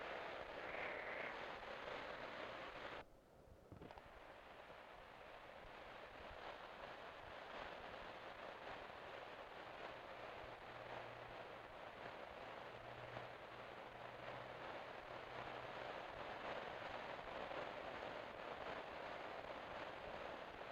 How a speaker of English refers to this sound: here it's an everyday occurrence, and you think the roof is going to fall in, but it doesn't. Believe it or not, I'm not even wet standing here talking, but the rain is coming down in torrents. It is just pouring.